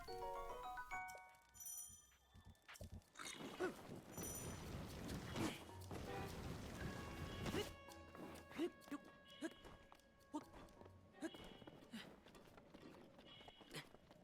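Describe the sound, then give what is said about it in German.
A bright, ringing video game horse call sounds out in a few tonal bursts, layered over busy in-game effects and noisy clatter, moderately loud, played while the player character runs through snow close to freezing. “Kann man das Erfrieren klitschen, indem man diesen Pferderuf klitsch macht?”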